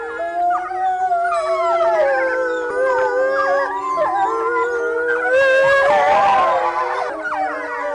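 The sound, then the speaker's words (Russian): A wolf family of four adults and four cubs at the Novosibirsk zoo howls in chorus, several long wavering voices overlapping at different pitches, with higher yelping notes joining in, loud and continuous throughout with no talking. “Конкретная пара, которая была записана, 4 взрослых животных и 4 детеныша в новосибирском зоопарке, они практически всегда выли после закрытия зоопарка”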